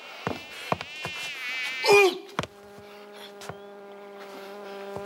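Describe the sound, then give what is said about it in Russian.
A fly buzzes with a wavering, whining drone, broken by a few sharp taps and knocks, then settles into a steadier, lower hum. “Слышите?”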